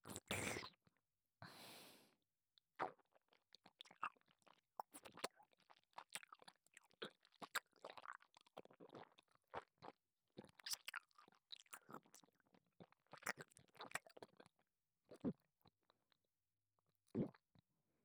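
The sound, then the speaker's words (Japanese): Wet chewing with irregular crunchy bites and smacking mouth sounds, continuing steadily for several seconds with short pauses and no talking. “また前回のように咀嚼するから聞いてくれ。”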